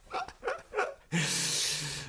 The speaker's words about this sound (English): Did somebody just say something to you then? Or is it your dog that's panting in the background? Well, the dog's just sat on the baby's dolly who's just gone, ba-ba.